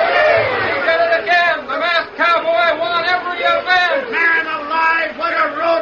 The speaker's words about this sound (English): As the final event, Bronco Busting, ended, the crowd went wild.